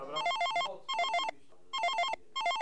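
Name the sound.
telephone ringing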